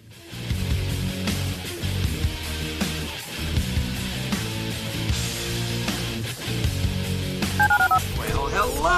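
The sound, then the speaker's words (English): A run of telephone dialing tones in a radio station promo for calling the listener line, a steady sequence of short, fairly loud beeps blended into a busy musical backdrop, with higher warbling tones near the end. “Dial the phone.”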